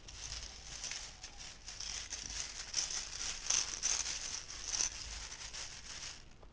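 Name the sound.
water splashing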